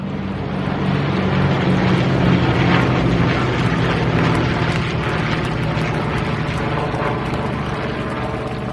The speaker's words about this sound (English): It was the missing man formation. Four fighters approached as taps sounded. The crowd got very quiet as one of the fighters pulled up and away, commemorating all those lost.